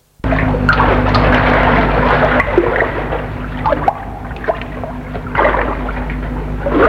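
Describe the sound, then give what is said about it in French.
A waterfall of water falling from a mountain roars steadily, a dense, continuous rush of falling water that fills the whole clip, with a faint low hum running underneath and no voices. “Je me suis toujours souvenu du torrent qui se déverse sur le lac, là à gauche, et cette cascade qui se trouve en face de nous, toute cette eau qui tombe de la montagne.”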